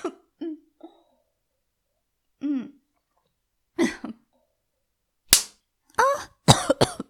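A person coughs repeatedly in short, irregular bursts, starting with a few small throaty coughs and building to a cluster of harsher, louder coughs near the end.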